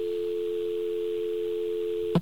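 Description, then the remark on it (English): A steady, unbroken telephone dial tone hums alone over an open line for about two seconds, then cuts off abruptly with a short click, faint line hiss underneath. “You're on the radio, and you sound like a dial tone.”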